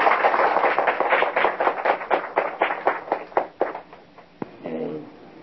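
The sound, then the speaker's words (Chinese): An audience claps to welcome a Dharma master visiting from a lecture hall in San Francisco, a steady, rhythmic pattern of sharp bursts that gradually fade, and a voice starts speaking as the clapping dies away. “请大家鼓掌欢迎。”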